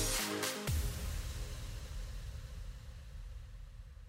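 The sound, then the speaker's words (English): A car engine revs with a brief, bright roar, then settles into a steady, low rumbling idle that continues. No one speaks. “Look around. You can find cars like these on AutoTrader.”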